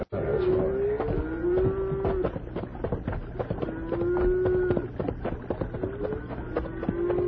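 Several cattle moo in long, drawn-out calls over a busy background of hooves and movement, the lowing repeating every second or two as men herd them onto a bridge by a riverbank.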